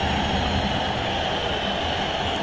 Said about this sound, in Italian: fischi a San Siro per l'Inter, che perde in casa 1-0 contro il Parma.